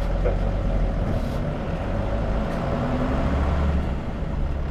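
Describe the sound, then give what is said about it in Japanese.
A bus engine rumbles steadily and loudly as the bus pulls away after its doors close, a deep continuous drone with a faint rising whine, no voices heard. The bus is bound for the Nankai Ferry, via Hatamachi and Okinotsu Elementary School. “ドアが閉まります。ご注意ください。発車します。”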